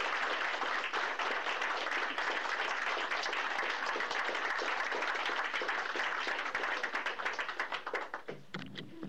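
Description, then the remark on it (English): A crowd applauds steadily, the dense patter of many hands clapping holding a constant loudness for most of the stretch before thinning into scattered claps at the very end. “Can we clap again?”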